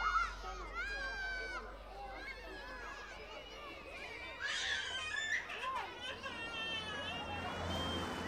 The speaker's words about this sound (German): Einzig die Kinder draußen lärmen und weinen.